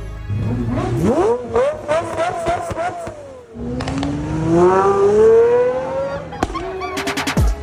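A supercar engine revs loudly on a street in Munich, its pitch climbing in rising sweeps with brief drops between gears, then a long roaring pull, ending in a few short, sharp throttle blips.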